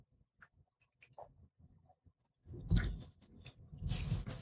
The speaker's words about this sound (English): And your mom would say, chew your food up 30 times. Your meat. I don't know if 30 is really necessary. Mm-hmm. So, just chewing. Still chewing, huh?